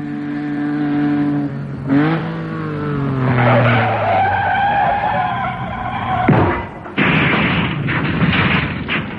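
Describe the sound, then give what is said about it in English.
A car's tyres screech in a long, loud skid as it goes off the road, its engine whining through shifting pitches, followed by sudden heavy crashing impacts and rough noisy tumbling, with no voices. “Only don't try to move, otherwise your car will roll right over onto its roof.”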